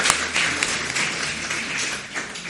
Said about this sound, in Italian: Allora lo introdurrei solo con un applauso, sempre di incoraggiamento.